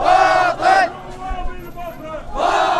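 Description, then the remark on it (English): A protest crowd of mostly young men in Basra, out at night demanding change, shouts together in loud, rhythmic bursts. Two strong chants come at the start and another rises at the end, with a babble of voices filling the gaps between. “Through Basra's sweltering summer and now into the fall, crowds of mostly young men have come out every night demanding change.”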